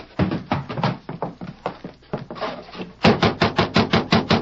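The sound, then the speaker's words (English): Three riders knock on the door of the house at the Rancho Martinez: scattered, uneven thumps give way to a steady, louder run of about eight firm raps in quick succession, with no voices. “They quickly hitched their horses and knocked on the door.”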